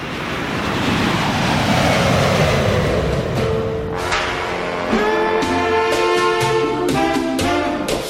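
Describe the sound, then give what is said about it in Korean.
A loud, steady jet airplane roar of a Boeing 747, used as a radio sound effect, fills the first few seconds, then recedes as music with sustained tones rises up and takes over. “이 비행기 소리 구하기 어렵거든요.”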